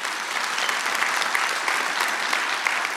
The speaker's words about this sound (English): Yeah, I can clap for that.